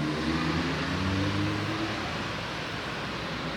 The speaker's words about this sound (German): Oh, ist das für ein Auto dort? Was ist das für ein Auto?